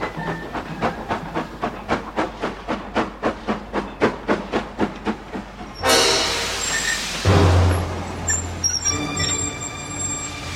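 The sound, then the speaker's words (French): A powerful steam locomotive of the Périgueux–Bordeaux omnibus train chuffs in steady, evenly spaced puffs as it slowly enters Neuvic-sur-l'Isle station in July 1944, then releases a loud burst of hissing steam, with a deep rumble and high squealing tones as it slows and stops along the platform. “La puissante locomotive arrive au ralenti, puis s'immobilise le long du quai, comme prévu.”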